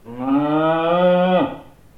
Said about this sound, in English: They keep horses. Sheep. Cows.